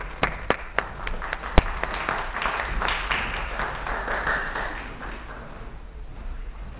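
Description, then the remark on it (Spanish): A handful of separate, sharp claps ring out, then merge into a steady wash of audience applause for a speaker being introduced at a talk on blogs and Internet use. The applause holds for several seconds before easing off slightly toward the end. “Un aplauso para …, por favor.”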